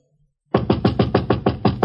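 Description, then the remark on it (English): Rapid, insistent knocking on an apartment door: about nine loud raps in a steady quick rhythm, starting abruptly after a brief silence, with no voices. “Sorry, I knocked, and when you didn't answer, you broke in.”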